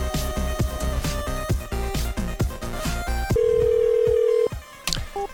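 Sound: telephone dialing and ringing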